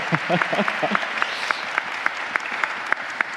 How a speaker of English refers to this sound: For the sake of the podcast, we're recording from Christ Church Cathedral in downtown Vancouver. So excited. Have you all give a round of applause so people can hear that you're here.